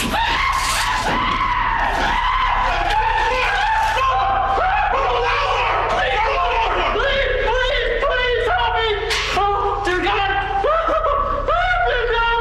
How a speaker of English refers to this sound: because this time, once he's on the ground, he gets the taser right to the neck. And he screams, I'm going to play it here for you a minute, but he screams